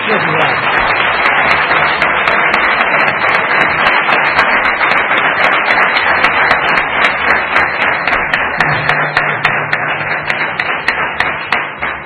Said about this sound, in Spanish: Bueno, un aplauso para el míster.